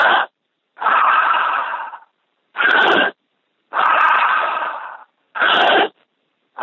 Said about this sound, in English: So when I say breathe, I want you to breathe deeply, fully, right in behind those points on your finger. And we'll do 5 breaths together. You ready? 1, 2, 3. Follow me. I want to hear you all.